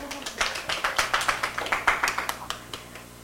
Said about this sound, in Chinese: 来，我们鼓掌欢迎她。